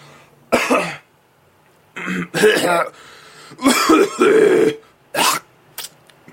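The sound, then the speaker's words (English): A person coughs and clears their throat in several rough bursts separated by short pauses, with a final sharp cough at the end. “Whatever, your grandma coughs harder than that.”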